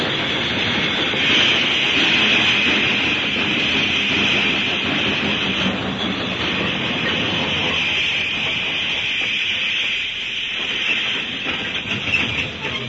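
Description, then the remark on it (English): A train grinds along under heavy braking, a loud, steady wash of hissing and rumbling noise that thins slightly toward the end as it slows. No voices are heard. “Throw that brake there! Yeah. We gotta stop now!”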